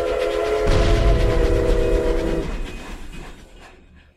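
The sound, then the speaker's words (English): A train horn sounds a sustained blast over heavy, rumbling rail noise, then cuts off as the clattering train recedes and fades away within a few seconds; no one speaks. “We haven't played this bumper in a while, so we'll just carry on and kick it into this. Deep Run Tram, last call for mail.”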